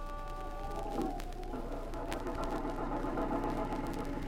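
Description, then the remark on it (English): A car driving into the town of Carville, a former mining town, with a steady, continuous engine hum, a low rumble and faint whining tones, holding an even loudness throughout, with no voices. “Oh, there's a parking spot. Uh-huh.”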